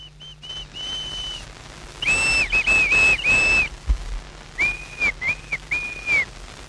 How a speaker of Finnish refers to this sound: Tämä vihellys, joka niin juhlallisesti aloitti tämän lähetyksen, ei ollut peräisin mistään uudesta lintulajista, joka on muuttanut tänne Erakkosaarelle. Nämä äänet ovat peräisin erakon pitäjäpiireistä.